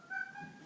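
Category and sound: animal, cat meowing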